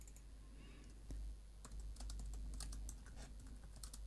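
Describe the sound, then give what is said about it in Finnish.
Quick, uneven keystrokes clatter on a computer keyboard as text is typed into a new utterance unit in speech annotation software, a burst of typing with a few firmer key presses, including Enter, over a low steady hum. “Painetaan Enter.”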